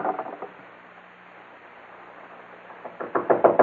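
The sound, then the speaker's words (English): A quick series of sharp knocks on a door by people demanding it be opened, a brief burst at the start, then a quiet pause before a louder, more insistent flurry of rapping near the end. “Open up, Morgan. We know you're inside.”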